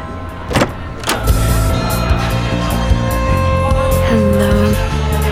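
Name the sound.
car pulling up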